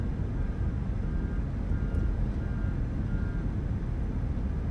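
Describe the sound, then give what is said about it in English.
A heavy John Deere tractor engine rumbles steadily and loudly throughout as it does roadside construction work, a deep continuous drone with faint, intermittent high-pitched tones in the background and no voices. “And now I'm stuck behind some John Deere fucking tractor doing construction with no flags.”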